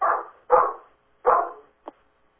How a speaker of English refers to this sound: Somebody's dog is barking? Oh, that would be mine. That's why I usually am on mute.